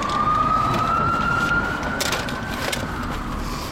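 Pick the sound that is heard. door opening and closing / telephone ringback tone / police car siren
police car siren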